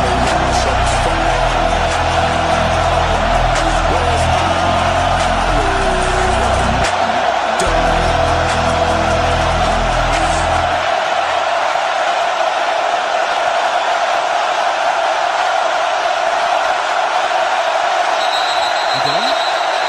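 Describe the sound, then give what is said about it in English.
A huge Penn State football stadium crowd of about 107,000 people roars in a loud, unbroken wash of noise, with a deep rumbling low end for the first half that thins out, leaving a steady hiss of massed voices. “Today on Let Me Be Frank, we're talking about crowd noise because 107,000 people officially”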